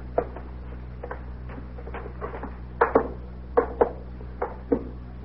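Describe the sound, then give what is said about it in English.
A fancy door knocker raps against a door in an uneven series of sharp metallic knocks, soft at first and then several louder strikes, over a low steady hum with no voices. “Fancy door knocker, huh?”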